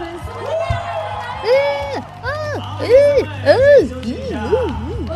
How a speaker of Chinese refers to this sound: 说得太好了，再给他们一些尖叫声和掌声吧。